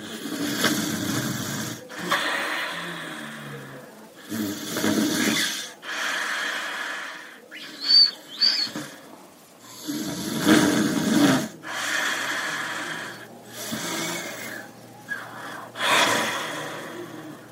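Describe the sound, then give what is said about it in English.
A grandmother snoring, with raspy, snorting inhales and breathy exhales repeating in a steady rhythm every few seconds, fairly loud, with no talking. “And then she moved to a different city, and she started to, like, have strong Sadauje for her grandmother snoring. And so she recorded it.”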